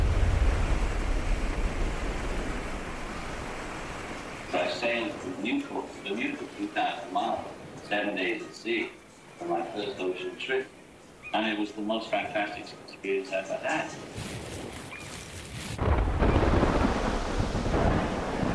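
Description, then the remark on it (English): A roaring wash of stormy ocean waves and rumbling thunder from a terrible nor'easter at sea, a day out on a boat trip to Bermuda, fills the opening seconds, fades under a man's speech, then surges back loud at the end. “A day out, a terrible nor'easter hit.”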